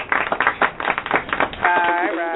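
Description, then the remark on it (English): A quick run of hand claps, fast and uneven like a few people applauding at once, lasting a couple of seconds before voices take over at the end. “So clap for you.”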